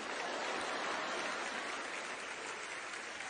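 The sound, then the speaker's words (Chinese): A steady wash of applause from a church audience, many hands clapping continuously at an even, moderate level for a few seconds after the speaker prompts them to clap, with no talking over it. “你们就只坐在那里不鼓掌吗？”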